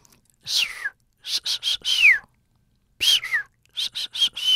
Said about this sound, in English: But what they do know is that each dolphin seems to have its own kind of signature whistle. Which is basically a name. Every individual has its own name.